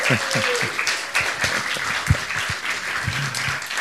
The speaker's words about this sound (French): Ils se sont mariés samedi dernier à la mairie. Voilà, on les applaudit.